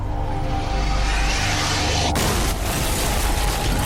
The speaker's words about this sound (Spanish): Una gran explosión sacude la oficina del FBI.